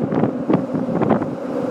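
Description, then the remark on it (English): Strong, gusting wind buffets the microphone in a steady low roar, with rougher bursts surging through, recorded on the 25th of April bridge in Lisbon in windy, stormy weather. “Lisbon, from the very windy and stormy 25th of April bridge.”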